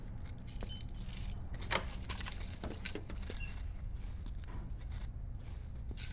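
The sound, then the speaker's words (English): Keys jangle and clink in the lock of a security door, a series of bright metallic rattles spread across several seconds over a low, steady background rumble. No one speaks. “There's keys in the door.”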